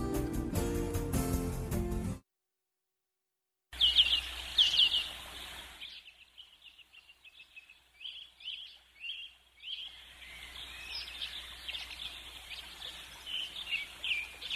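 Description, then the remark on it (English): A dense chorus of birds chirping and singing, with quick repeated tweets and trills, pausing briefly before resuming. A short burst of music precedes the birdsong, followed by a moment of silence. “The birds flew in without me.”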